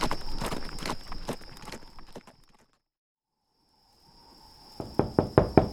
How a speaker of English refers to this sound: A plump, middle-aged woman with curling pins in her hair opened the door to Flintlock's knock.